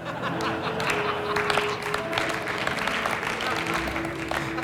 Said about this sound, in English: Some nervous applause. It's like, really? Yeah, really.